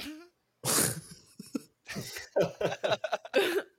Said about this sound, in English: Well, Rico's going to look over at Quill and kind of clear his throat.